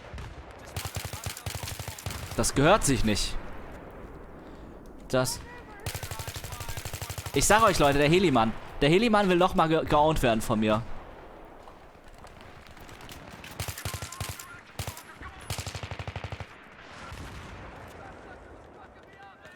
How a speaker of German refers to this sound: Au, was ist hier los? Was ist hier los? Warum schießt ihr denn auf mich? Ich finde das nicht fair, dass die zurückschießen, ehrlich gesagt.